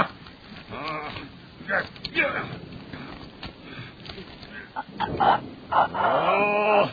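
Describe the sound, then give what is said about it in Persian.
Strained choking and gurgling noises, harsh and broken, come in uneven bursts over about seven seconds and grow louder and more desperate toward the end, from someone being strangled with a belt pulled tight around the neck. “داره صدای خرخر کردنش در میاد.”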